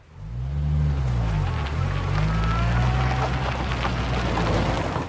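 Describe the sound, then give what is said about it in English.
A stuck, grounded minivan's engine revs loudly and steadily for several seconds, its pitch rising and dipping, with a constant hiss of spinning, churning noise and no voices. “Shoot. It's stuck. Dispatch, we're going to need a tow truck over here for a grounded minivan.”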